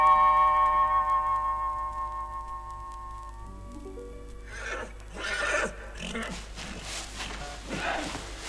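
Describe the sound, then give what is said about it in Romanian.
A bay horse gives a long, loud whinny that trembles and slides downward, followed by snorting, breathy rustling and shuffling sounds. “Ia să văd eu, roibule, câte parare faci. Înțepenește-ți bine picioarele, că-și vreau să te cul la pământ.”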